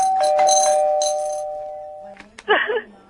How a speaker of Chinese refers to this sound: 对不对？ 你没听到给你提答对声 了。